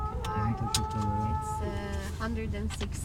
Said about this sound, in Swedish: I luften faller snöblandat regn och ur stora högtalare utanför bilfönstret strömmar måndagskvällens bönutrop.